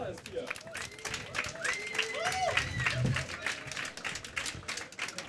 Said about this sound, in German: Dann würde ich sagen, Bühne frei, großen Applaus